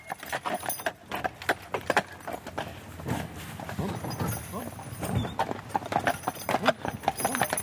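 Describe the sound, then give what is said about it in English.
The hooves of two giant draft horses pulling cargo clip-clop on a forest road in a steady, overlapping rhythm of sharp knocks, with faint murmured voices underneath. “We passed a few walkers and their dogs, and everyone was careful to make way for the two giant horses and their cargo.”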